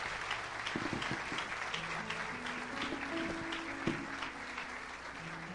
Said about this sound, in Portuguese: Vamos dar um aplauso ao Senhor Jesus.